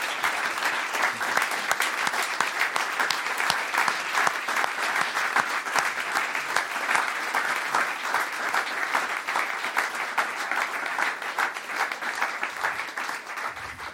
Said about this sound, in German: Jetzt gibt es einen großen Applaus für dich